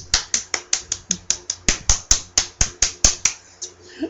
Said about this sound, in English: lips clapping together because he was talking to me